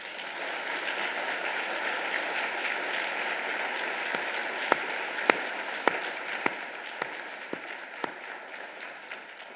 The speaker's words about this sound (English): I do want to give a collective round of applause to our incredible first responders for the work that they did.